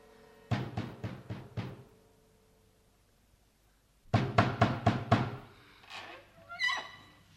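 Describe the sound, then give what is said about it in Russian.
A soldier knocks on the door of a house: two series of firm knocks, about five quick, evenly spaced raps each, separated by a few seconds of quiet, followed by a brief higher-pitched sound. “Как будто стучали.”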